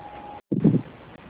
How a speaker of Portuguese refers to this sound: Tá muito barulho. Ventilador ligado, computador ligado, televisão ligada, tudo ligado.